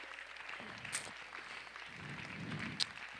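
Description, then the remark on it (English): An audience claps hands in praise during a worship service, a steady, dense patter of overlapping claps lasting a few seconds, fairly soft overall, with a couple of sharper individual claps or cheers standing out. “Let's give them a hand clap of praise tonight.”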